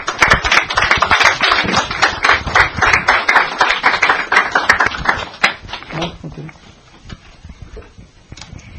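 A church audience applauds warmly to welcome a visiting pastor about to give a message, many hands clapping in a dense, steady patter for about five seconds before the applause thins out and fades into quieter room sound.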